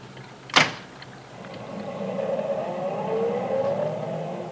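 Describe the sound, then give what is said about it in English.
A car door thuds shut, then an engine hums and rises steadily in pitch as the car pulls away and gathers speed, moderately loud, with no talking. “Here's the car right here.”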